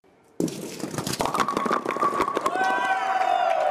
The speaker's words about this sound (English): The unmistakable sound of bowling pins getting knocked around echoes up several stories of the State Office Building. One makeshift bowling lane with 10 real pins has been fashioned out of duct tape and a plastic drop cloth on the tile floor.